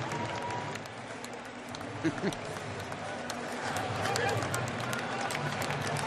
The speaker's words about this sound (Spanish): Ahí está, esos son los aplausos del parco. Mientras piden al resto de la familia que venga hacia ese palco.